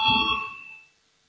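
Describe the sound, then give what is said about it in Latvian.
A single bright voting bell ring in a parliament chamber, with a sharp metallic strike, its clear ringing tones fading away over about a second, heard alone with no voices. “Lūdzu zvanu, balsosim par 91. atbildīgās komisijas priekšlikumu.”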